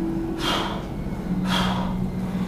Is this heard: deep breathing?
yes